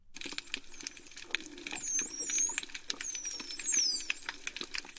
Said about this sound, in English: The sounds of dolphins, but are they saying anything?